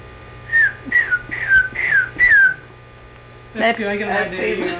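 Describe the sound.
A person whistles a series of five short, falling notes in quick succession, clear, then someone starts talking over a faint background hum.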